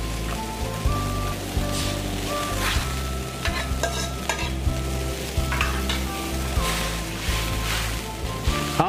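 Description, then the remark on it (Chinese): Continuous sizzling and bubbling as soy sauce is poured along the edge of a heated pot of bubbling, steaming water with pork trotters, with occasional sharper crackles and light clinks over a steady hissing bed, no voices. “来，我们现在加热，当锅缘那些水在冒泡、在冒烟的时候，其实这个时候我们就可以把酱油，好，沿着锅边这样稍微给它放进来。”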